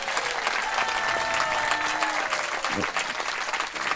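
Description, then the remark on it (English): Steady applause from a sizable audience fills the whole stretch, dense and continuous at a fairly loud level, with a few faint tonal sounds threading through the clapping. “Let's give a big round of applause for the determination of”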